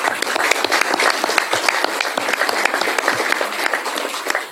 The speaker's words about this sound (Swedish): Ni som var med och skrev under vår namninsamling som vi gjorde, vi lyckades samla ihop över 16 000 namn. Jag tycker det faktiskt är värt en applåd ännu.